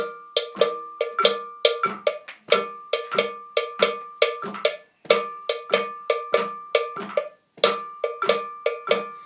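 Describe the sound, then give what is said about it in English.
A bell pattern rings out alone, with sharp metallic strikes in a steady, repeating rhythm, some accented louder than others, each hit leaving a short bright ring. “Lovely, okay, so there's two bell parts.”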